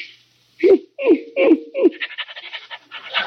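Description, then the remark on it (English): A St. Bernard pants in four heavy, rhythmic breaths, then wet, slobbery licking sounds follow in a quick, continuous patter as it licks a person's face. No one speaks. “Oh, you got a St. Bernard. Nice doggy.”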